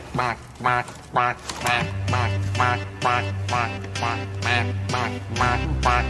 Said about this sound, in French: Il sort un canard d'un panier qui fait coin-coin, etc.